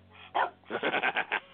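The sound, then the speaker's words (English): A male dog makes noise: one short strained call, then a rapid run of five or six yappy, whiny pulses, fairly loud with no talking. “He's a stupid dog.”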